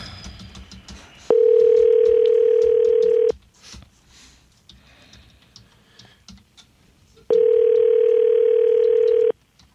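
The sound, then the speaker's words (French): Two long, steady telephone beep tones before a call is placed, each about two seconds, loud and pitched mid-low, separated by a quiet gap with faint clicking and background rustle. “T'as mon petit son de bip”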